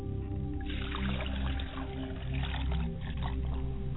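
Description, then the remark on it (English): Water pours steadily into a glass, a continuous gurgling stream that runs for several seconds without pause over a low background hum, with no one speaking. “I set a glass of water. I pour a glass of water.”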